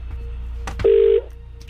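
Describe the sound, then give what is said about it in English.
A phone line being dialed at radio station KMFM to call back a competition entrant: a couple of sharp clicks, then a single short steady ringing tone, clear and fairly loud, with no voices. “I've now got somebody's name in front of me that we need to call back and try and make a winner.”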